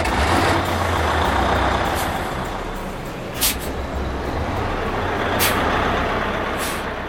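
A heavy lorry engine being started rumbles loudly and steadily, with a couple of short, sharp air-brake hisses bursting out over the deep idling drone.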